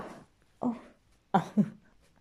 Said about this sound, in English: Yeah, this is my dog.